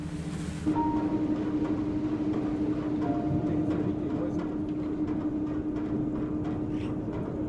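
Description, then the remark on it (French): Cable car motors at the Plan de l'Aiguille cable car drone steadily at full power, a loud continuous mechanical roar with a constant low humming tone and faint rattling through the whole stretch. “je sais pas si c'est le moteur du téléphérique du plan de l'aiguille ou les deux qui fonctionnent”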